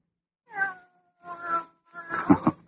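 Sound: cat meowing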